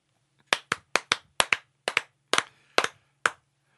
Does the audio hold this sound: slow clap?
yes